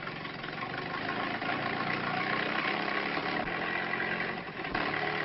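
A truck engine idles steadily, a continuous low rumble holding an even level throughout with only a brief dip near the end. No voices are heard.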